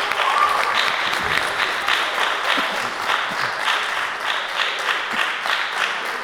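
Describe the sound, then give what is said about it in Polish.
Steady applause from a group, a dense wash of many hands clapping at an even loudness for several seconds, with no one speaking over it. “Należą się brawa.”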